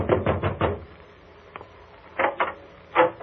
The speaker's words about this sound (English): so I took a fast distance to the home of the late George Grant. I knocked at the door.